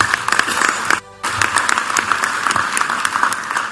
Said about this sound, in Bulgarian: Аплодисменти за Ева Майдъл.